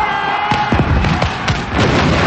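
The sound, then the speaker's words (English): Gunfire from soldiers shooting as they run during a battle at dusk crackles in a dense, overlapping barrage, with sharp shots and deeper booms going off every fraction of a second against a steady roar. It is loud, and no one speaks. “Soldiers shoot as they run.”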